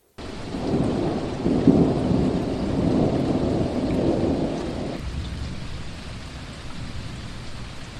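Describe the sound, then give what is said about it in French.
Steady, dense rain hisses throughout, with a deep rolling rumble of thunder underneath for the first five seconds before the downpour continues alone. No voices. “C'est la pluie, comme un frais pardon, sur la route qui poudroie au soleil.”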